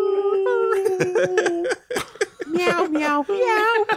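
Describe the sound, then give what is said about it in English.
A person mimics dogs whining and howling, drawing out long, warbling tones that slide up and down in pitch, with brief breaks between the loud, continuous cries. “Just have dogs whining through the whole thing.”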